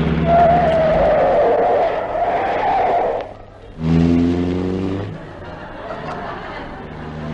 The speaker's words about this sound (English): Oh, here comes a car.